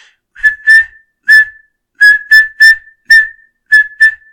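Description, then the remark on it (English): A simple melody that stays on one unchanging pitch, about nine clear, whistle-like tones in a loose rhythm of short and held notes, with brief silences between groups and no voices. “Now this does not sound very nice because it is the same note.”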